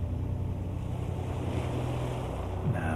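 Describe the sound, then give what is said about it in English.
Steady ocean surf washes continuously on a beach, a broad rushing roar with low rumbling undertones and no voices, the level holding even throughout with a faint tonal hum underneath. “You will be more relaxed than you have ever been before because you are on the beach.”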